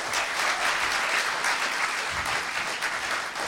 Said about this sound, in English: If you could give the guys on stage a round of applause.